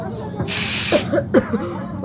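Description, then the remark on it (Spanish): A short, steady burst of aerosol deodorant spray hisses for about half a second, fairly loud, followed by brief murmuring voice sounds. “Y a ver, ¿qué le ves de mano a este desodorante en aerosol?”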